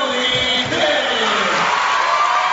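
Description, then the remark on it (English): A dense, steady roar of a large arena crowd cheering and shouting as players are introduced, loud and continuous throughout, with scattered whoops rising above the broad wash of noise. “the crowd noise is just now beginning”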